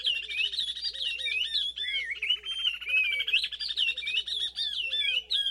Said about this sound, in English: In this duet of oriole warblers from Senegal, the female keeps time with a rising series of staccato notes as the male whistles along.